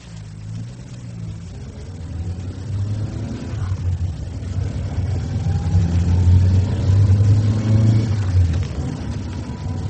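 A car engine rumbles low and steady, its pitch rising and falling as it revs and pulls away, growing louder toward the end. No one speaks.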